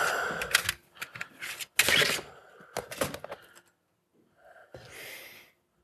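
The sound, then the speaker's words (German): Rustling and shuffling of papers being sorted into a stack, in several quick bursts with brief pauses between, then a softer, quieter sweep of paper near the end. No one speaks. “Ich mache immer einen Stapel.”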